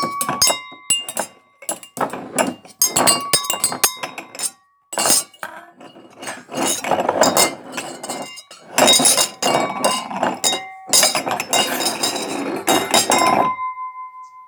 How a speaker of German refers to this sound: Unabsichtlich stößt Wilfried gegen einige Gläser. Diese fangen an zu klirren und zu quietschen.